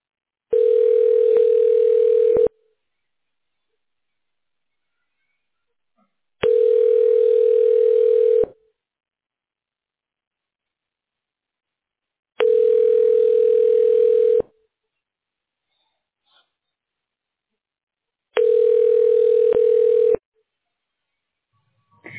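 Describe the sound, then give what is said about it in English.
A telephone ringback tone repeats four times while an automated phone menu transfers a call, each steady buzzing burst lasting about two seconds with roughly four seconds of silence between, clear with no voices. “Wait while I transfer your call.”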